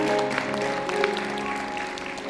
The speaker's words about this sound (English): Can we just give God a hand clap of praise all over this building today for saving our lives? Come on, you can do better than that. Can we just give him a hand clap of praise?